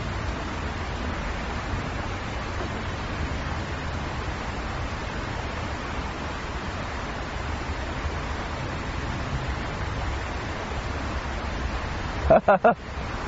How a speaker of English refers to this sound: Let us for a moment listen to the beautiful vibration of the flowing water.